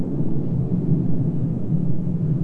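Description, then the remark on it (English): A steady, deep rumble of an airplane passing overhead, droning low and continuous throughout without any voices. “I hear an airplane going over.”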